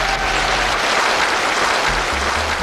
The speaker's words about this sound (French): Vous l'avez applaudi comme il faut ?